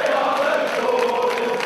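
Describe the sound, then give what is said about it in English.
A large crowd of Newcastle United football fans cheers and chants together after an investment group led by Saudi Arabia's Sovereign Wealth Fund bought the club: a dense, steady roar of many voices with a sung, tonal edge, holding at an even loudness throughout. “the sound of Newcastle United fans. They're cheering on a new era for their soccer team.”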